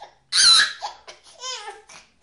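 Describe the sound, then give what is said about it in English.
A 4-month-old baby girl lets out one loud, shrill screech, then trails off into a few shorter, higher-pitched squeals and whimpers. “Unless she drops it to the floor, then she screeches.”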